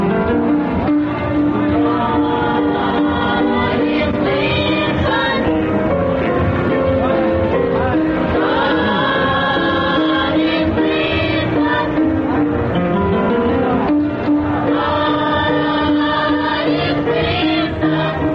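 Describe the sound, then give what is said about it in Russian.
A children's choir of pupils of a Black religious school sings a sustained, melodic hymn-like song, voices blended and steady at full volume throughout, clear with no speaking over it. “А сейчас вы слышите детский хор воспитанников негритянской религиозной школы.”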